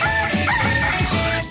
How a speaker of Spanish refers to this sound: Y para los intensos que piden el gallo el domingo. No lo vamos a hacer, no, porque no nos da la gana. El gallo de Radioactiva, fin de semana.